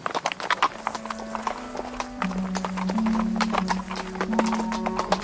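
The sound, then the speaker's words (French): Horses' hooves clop steadily as the horses are held back on a steep, winding downhill path under huge beech trees, a dense, continuous rhythm of many sharp strikes, fairly loud, with a low droning tone running underneath. “Pendant près d'une lieue, ils se fatiguèrent à retenir les chevaux sur un sentier qui serpentait en pente raide, sous des hêtres énormes.”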